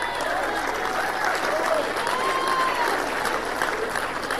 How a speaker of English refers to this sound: I hear you clapping.